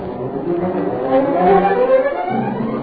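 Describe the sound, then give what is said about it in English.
A car engine hums steadily, its pitch rising as the car pulls away, rolls through gates and gathers speed; continuous, with no voices. “A couple of minutes later, we were in the car. We rolled through the gates.”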